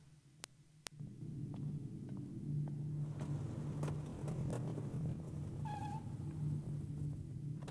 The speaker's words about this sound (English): Hearing a car arrive, he stops and looks down at it. The smart man with the briefcase gets out.